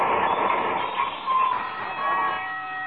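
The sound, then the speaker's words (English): A streetcar rumbles steadily along toward the McGee stop at 14th Street, a dense mechanical roar with high metallic whining tones threading through it, holding at a constant loudness for a few seconds with no voices. “Next stop, McGee. 14th Street.”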